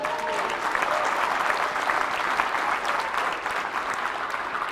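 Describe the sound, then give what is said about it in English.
A crowd applauds the speaker's wife as she is introduced, a dense wash of many hands clapping at an even, fairly loud level for the whole stretch, with no voices rising above it. “Here's my wonderful wife, and please clap for her.”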